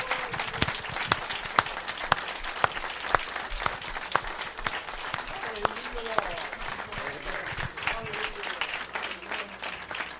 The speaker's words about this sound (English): Let's just give the Lord a great hand clap of praise.